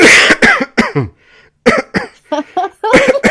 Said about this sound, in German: dreimal husten